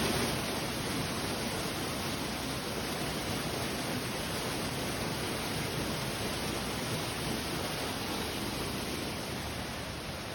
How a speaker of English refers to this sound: You sit here for a few moments and just breathe and listen to the waves.